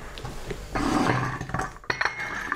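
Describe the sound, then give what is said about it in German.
Tea is poured into cups, a steady splashing stream lasting about a second, with light clinks of china around it and no talking. “So, jetzt schütte ich aber mal den Tee ein.”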